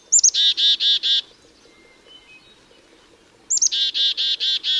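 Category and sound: bird, chickadee calls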